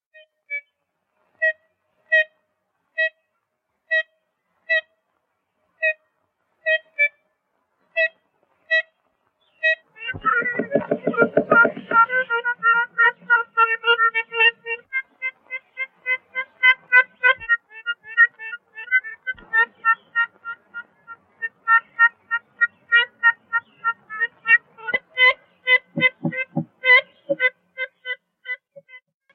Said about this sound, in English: Let's take a listen to some of the birds in Audubon's Aviary. The audio was supplied by the Cornell Lab of Ornithology for the video that accompanies the exhibition. First, let's hear the 1935 recording of the ivory-billed woodpecker.